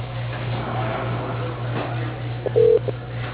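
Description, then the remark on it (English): A single short, loud telephone keypad tone beeps near the end over a narrow phone-line sound with a steady low hum underneath and no voices, dialed during the automated phone menu of Quantum Leap Communications. “If you know your party's extension, please dial it at any time.”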